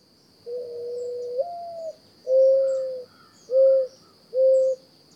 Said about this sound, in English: Some people sometimes think it's an owl, but it's actually a mourning dove.